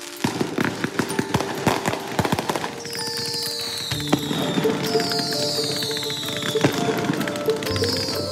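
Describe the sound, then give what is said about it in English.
Fireworks going off: a rapid string of sharp crackling pops, then several shrill whistling rockets that whine downward over a steady rumbling, crackling wash. Loud, with no voices. “Fireworks, loud ones, keeping you up all night ones.”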